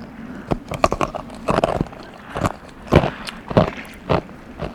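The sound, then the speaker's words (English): Someone bites and crunches on a small piece of iceberg ice outdoors in Newfoundland, with a series of sharp, irregular cracking crunches that come in bursts of chewing, fairly loud with no talking. “Hey, here's a little piece of iceberg. It's a little ice cube. What do you think these taste like?”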